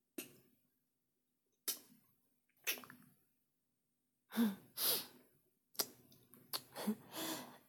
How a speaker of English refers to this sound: breathing's getting a bit heavier.